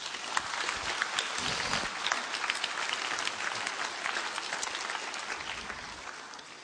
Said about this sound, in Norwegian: Vi kan jo få en applaus av dere også.